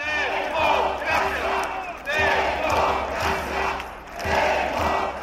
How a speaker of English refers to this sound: Protesters chanted for a return to democracy.